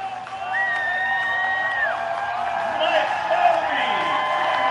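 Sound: baseball stadium crowd roaring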